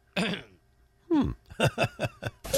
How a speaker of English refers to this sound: Cough. I am still recovering from this stupid, thing, whatever it was, the crud that everybody's had, so it's killing me.